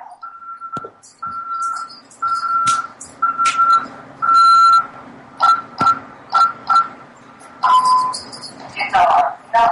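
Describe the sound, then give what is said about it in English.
A home security alarm, set for the night, beeps steadily as a dog is let out to pee, a string of about ten short, evenly spaced electronic tones, loud, with scattered clatter and rustling noises in between. “My dog had to go out and pee. My alarm was set.”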